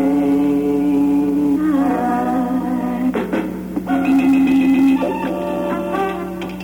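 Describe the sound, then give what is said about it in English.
Five short bursts of different songs are spliced back to back as a scrambled-tunes radio quiz, cutting abruptly from one tonal musical snippet to the next, steady and fairly loud with no talking over them. “All right, man, let's play the scramble tunes.”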